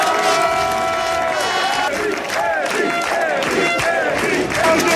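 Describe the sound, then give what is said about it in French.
A crowd of several hundred people at a town hall chants and cheers in unison as players greet them from the town hall balcony, voices rising and falling in a steady rhythmic pattern, loud and dense throughout with shouts layered on top. “Les joueurs ont ensuite salué la foule depuis le balcon de l'hôtel de ville, sous les chants et les cris.”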